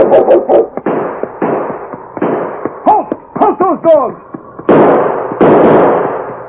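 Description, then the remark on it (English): Several sharp, loud gunshots crack out irregularly in a shootout, mixed with high yelping cries of sled dogs and shouted voices, followed by longer noisy bursts near the end. “I filled McDonald with a taste of lead before he...”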